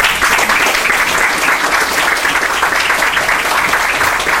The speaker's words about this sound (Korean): 다시 한번 임직받은 분들을 위해서 뜨거운 박수 부탁드립니다.